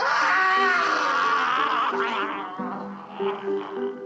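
A handyman, locked in a basement and set on fire, yells and howls in agony, loud, his strained, wavering cries continuing for several seconds before breaking into ragged, gurgling groans.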